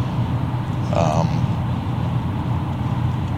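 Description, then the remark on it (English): Steady, heavy road rumble as large trucks pass, a constant low roar throughout, with a brief tonal blip near the start that could be a short horn. “Darn trucks throwing me around on the road.”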